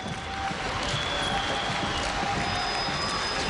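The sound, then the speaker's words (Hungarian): A large crowd at a Hungarian commemoration of the 1848 revolution in the National Museum garden greets Prime Minister Ferenc Gyurcsány stepping to the lectern, applauding steadily with several long, shrill whistles cutting through the dense clapping. The din stays loud and continuous throughout. “Fucsó és Taps fogadta a pulpitusra lépő kormányfőt.”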